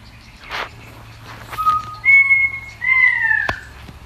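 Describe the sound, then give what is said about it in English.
A pied currawong calls with several drawn-out, ringing whistled notes, clear, preceded by a couple of short, harsh chucking bursts from a wattlebird, recorded on the surf coast in Victoria. “Helen, that one is a pied currawong.”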